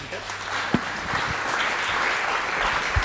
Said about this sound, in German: Einen großen Applaus, bitte schön, dass du da bist